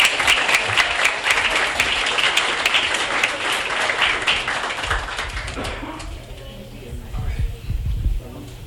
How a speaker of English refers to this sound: Also give us a round of applause to the coaches, judges, the staff here at Booties,